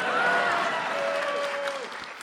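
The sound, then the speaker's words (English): A steady wash of clapping from an audience, sustained and fairly even, with a faint whistle-like tone drifting through it before it fades. “That's supposed to be an applause line.”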